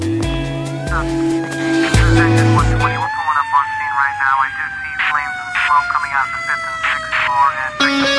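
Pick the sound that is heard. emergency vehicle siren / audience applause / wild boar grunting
emergency vehicle siren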